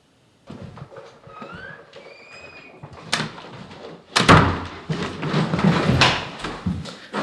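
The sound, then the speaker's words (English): An apartment door creaks on its hinges, then is pushed shut with a sharp knock and a louder, heavy slam, followed by rattling, clattering noise. “I just shut the door to my apartment.”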